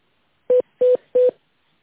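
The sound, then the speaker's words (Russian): Three short touch-tone beeps from a phone keypad, dialing an internal extension number on a call to the Vostok group of companies, evenly spaced in a quick steady rhythm, each a brief mid-pitched electronic tone of equal loudness, with silence between and no voices. “Пожалуйста, наберите внутренний номер абонента или дождитесь ответа оператора.”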